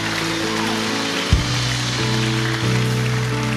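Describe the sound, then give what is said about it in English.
An audience claps steadily, a dense, crackling wash of applause that holds even throughout, with low sustained tones humming underneath. “Can we give all those a huge round of applause?”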